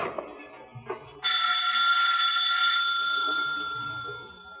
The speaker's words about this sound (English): And as Mike rings her doorbell...